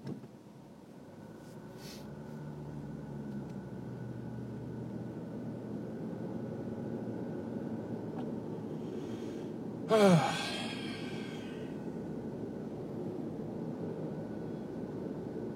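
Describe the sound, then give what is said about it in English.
A steady low rumble of passing traffic fills the background, with one brief, louder whoosh partway through as a vehicle goes by. No one speaks. “a lot of traffic through here.”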